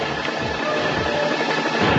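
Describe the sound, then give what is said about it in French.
A video game helicopter explodes in a loud, sustained burst of crackling, roaring noise that swells again near the end, with no voices over it. “Et voilà, j'ai explosé. Tiens, ça m'apprendra. Vous voyez, l'hélicoptère est pas invincible, évidemment.”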